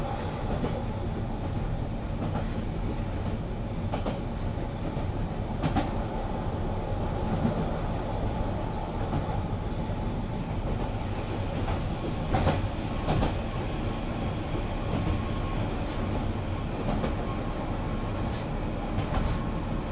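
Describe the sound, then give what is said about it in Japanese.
Steady low rumble from inside a moving train car bound for Kiryu, approaching Motojuku, with occasional sharp clacks and knocks as the wheels pass over rail joints, continuous and fairly loud throughout. “お降りの方は乗務員のいる車両の前のドアをご利用ください。”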